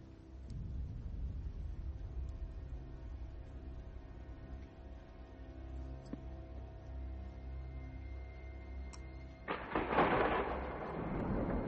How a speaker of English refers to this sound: Light, thunder and lightning.